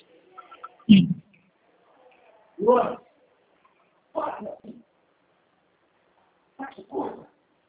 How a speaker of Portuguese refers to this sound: Oi, peraí, meu cachorro tá lá. Espera um pouquinho.